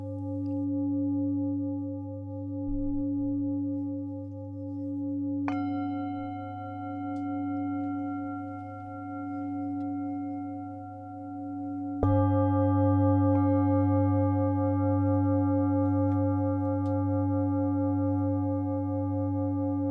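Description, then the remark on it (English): Sustained, resonant bell tones ring over a low, gently pulsing hum, with two fresh strikes adding brighter layers of ringing that linger and slowly blend together. No voices. “When you hear each bell, or combination of bells, you can focus gently on the sound and notice what you've heard.”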